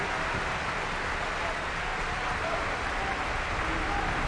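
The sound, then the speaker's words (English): An audience and members of an orchestra applaud steadily, Maestro Domingo among them: a dense wash of many hands clapping at once, holding an even, fairly loud level for the whole stretch with no voices standing out. “Members of the orchestra join in the applause.”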